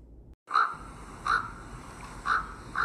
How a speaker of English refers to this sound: Then the raven flew over her, screaming again as he flew.